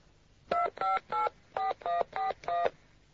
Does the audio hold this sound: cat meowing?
no